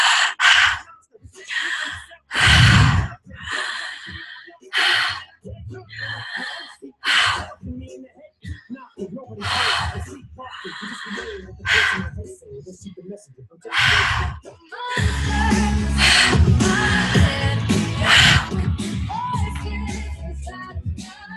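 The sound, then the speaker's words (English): Deep, audible guided breaths drawn in and pushed out, repeating in a slow, steady rhythm, with a fuller, continuous layer of sound joining in during the final stretch. “Let me breathe with you.”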